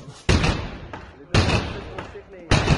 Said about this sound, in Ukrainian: І поліцейські на таких порушників карантину полюють щодня. Ось на цих кадрах правоохоронці виламують двері до закладу, де в розпалі велелюдна вечірка.